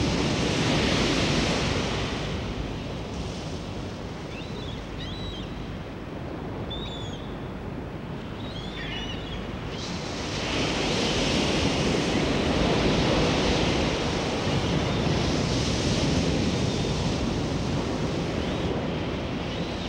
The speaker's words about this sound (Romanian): Sunetul valurilor oceanului este un sunet natural pe care mulți îl socotesc plăcut și relaxant. Este sunetul unei energii a naturii, o energie a naturii întotdeauna prezentă când valurile oceanului întâlnesc țărmul,